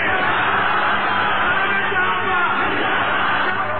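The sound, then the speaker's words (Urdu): The audience at a religious talk shouts slogans together, a loud, steady roar of many overlapping voices that carries on without a break for the whole few seconds. “ہر حال آپ کو پیغمبری کو ثابت کرنے کے لیے آپ جتنے نعرے کم لگائیں گے میں اتنی گفتگو اطمینان کے ساتھ تفصیلی کر سکوں گا.”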